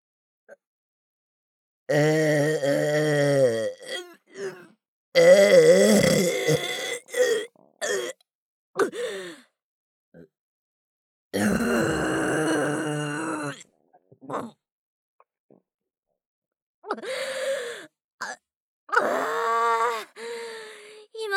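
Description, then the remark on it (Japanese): A series of long, loud, drawn-out belches, each rumbling for a second or two with short pauses and small grunting noises between them; no talking. The belches come from a full belly after gulping down a large amount in one go. “番大きな音のザーメンゲップでありましたな。”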